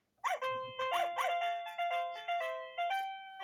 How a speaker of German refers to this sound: Du kannst dir jetzt aussuchen, zu welchem Intro-Musik du, welche Intro-Musik du haben möchtest. Na, dann nehme ich doch glatt den Hund. Den Hund, alles klar.